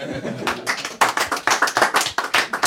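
A small group applauds, hands clapping in quick, uneven bursts that grow louder and steadier after the first second, energetic throughout.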